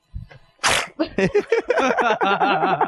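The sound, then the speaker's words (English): A child lets out a single sharp sneeze after a short intake of breath, followed by a few seconds of wavering, whiny vocalizing from the same small voice. “Bless you, honey.”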